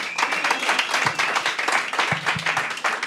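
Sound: audience applause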